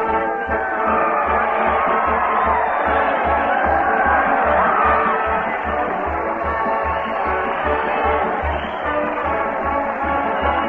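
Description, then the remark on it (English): A large crowd cheers and shouts continuously at a steady, loud level as Fred Allen leads a parade and band down the main street toward the old town hall, with a regular low thumping beat pulsing underneath throughout. “That crowd cheer Fred Allen as he heads the parade down the main street toward the old town hall.”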